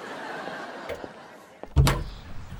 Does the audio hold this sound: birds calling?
no